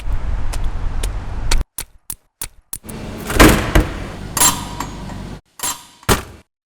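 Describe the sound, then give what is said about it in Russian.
A rough beat pieced together from recorded door sounds: a thudding door hit serves as the kick, layered with sharp clicks and scraping bursts in a loose, stop-start rhythm, with no voices. “Кик мы используем из звука двери.”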